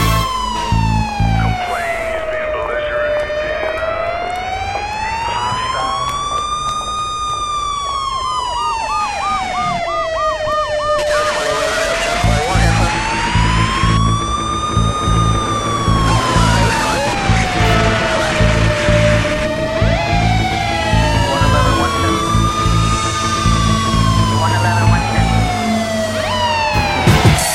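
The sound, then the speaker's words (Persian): A loud ambulance siren wails continuously, its pitch sweeping slowly up and down in long cycles, with a brief faster warble partway through and traffic rumble underneath. “صدای آمبولانس بود”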